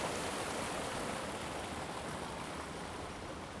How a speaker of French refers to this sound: mais où va cette eau qui coule? D'où vient-elle?